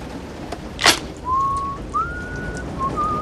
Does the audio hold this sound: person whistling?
yes